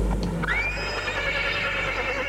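A horse whinnies loudly, a single drawn-out neigh with a high, wavering pitch that settles into a steady tremolo, with no talking.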